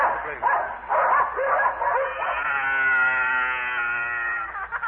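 Sled dogs pulling a dog sled yelp and bark in a noisy, choppy burst, then break into a long, sustained howl that carries loudly to the end, with no talking over it.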